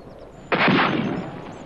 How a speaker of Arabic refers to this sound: إنهم يطلقون النار علي يا صفر بيك. احمل بندقيتك واختبئ في مكان ما، سأشتت انتباههم ريثما تنزل.